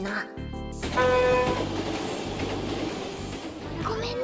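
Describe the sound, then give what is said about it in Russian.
A steady, loud rumble of a train moving along the rails, heard by a passenger riding in it, with a brief horn-like tone sounding near the start before the continuous rolling noise takes over. “Извини, я сейчас в поезде.”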